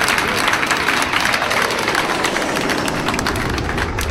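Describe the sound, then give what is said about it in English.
Steady, dense applause from an audience for Luke Heggie and Nick Cody at the end of a show, a continuous wash of many hands clapping at an even, fairly loud level for the whole stretch, with no voices standing out. “And one more time, big round of applause for Luke Heggie.”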